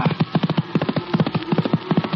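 Galloping horse hooves pound in a fast, steady three-beat rhythm, loud, a dense drumming of hoofbeats with no voices.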